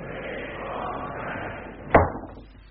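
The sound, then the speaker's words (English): A steady wash of outdoor murmur is cut off by a single sharp, loud bang as a window is shut, leaving the sound noticeably quieter afterward. “Do shut the window”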